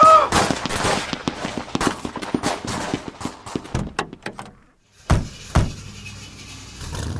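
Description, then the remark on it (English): Rapid, overlapping gunshots crackle in a dense volley for several seconds, then stop briefly before two loud, sharp single shots ring out. “No, you can't shoot from here.”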